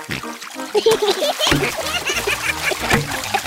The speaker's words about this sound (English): Very good, but try not to splash. Big children don't splash.